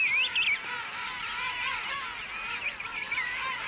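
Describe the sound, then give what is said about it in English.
A returning seabird parent and its chick call back and forth, recognizing each other's voices to find one another, thin rising whistles standing out above a dense, steady chorus of chattering birds in a rookery. “The chick will respond to its parent's call, and the parent to the chick's whistle.”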